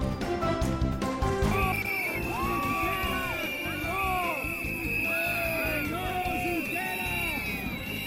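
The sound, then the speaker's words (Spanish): A large crowd of Catalan independence protesters in Barcelona shouts "traitor" at Esquerra leader Oriol Junqueras in loud, repeated bursts, many voices overlapping in rising and falling yells, sustained throughout, during a protest against the Pedro Sánchez and Emmanuel Macron summit. “Gritos de traidor al líder de Esquerra, Oriol Junqueras, esta mañana durante las protestas del independentismo catalán contra la cumbre que Pedro Sánchez y Emmanuel Macron han celebrado en Barcelona.”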